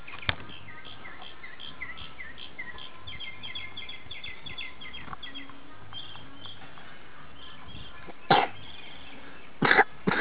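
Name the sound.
coughing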